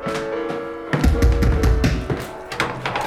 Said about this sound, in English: I have been knocking forever. Three knocks is not forever